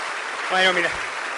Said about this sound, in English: Wait till I say something really interesting before you clap.